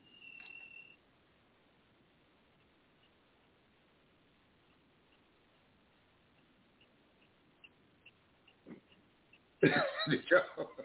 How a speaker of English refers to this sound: Did y'all get that? Y'all didn't hear the crickets? Wow. Okay. I heard like a little noise, but I was like thinking it was like phone interference.